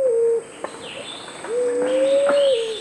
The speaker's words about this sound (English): Today on Bird Note, fruit doves, one gorgeous group of birds.